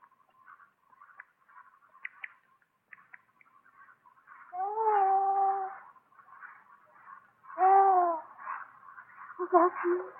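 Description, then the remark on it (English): Two drawn-out, harmonic bird calls, each about a second long, given in answer to a bird's call, ring out fairly loud over a steady bed of faint twittering and chirping, followed by a burst of busier chatter. “A bird called. I better answer.”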